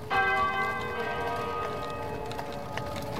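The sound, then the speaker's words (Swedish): Some 4,000 church bells ring out together on 26 May 1896 with a loud, resonant clang, rich overlapping tones hanging and slowly fading as further strikes sound faintly underneath. No voices are present. “Så många är de kyrkklockor som ringer i kapp idag den 26 maj 1896.”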